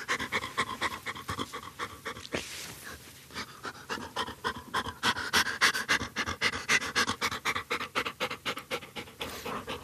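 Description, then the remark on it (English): A conservation detection dog used to find mink pants rapidly and steadily, quick rhythmic breaths running continuously for several seconds with a brief rustle partway through, no talking. “And obviously, you have the fun of having a good dog with you as well.”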